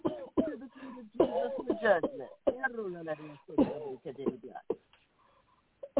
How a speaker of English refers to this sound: Deep breath and cough, everybody. Deep breath and cough.